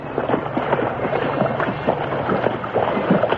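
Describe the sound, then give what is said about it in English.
The horse Scout splashing into a swift river as it swims: loud, continuous churning and sloshing with rough, irregular bursts of spray throughout, no voices. “Into the water, old boy.”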